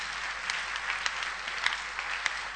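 A church audience claps for Jesus during a sermon, a dense patter of many hands with a few sharper, louder claps standing out every half second or so. No one speaks.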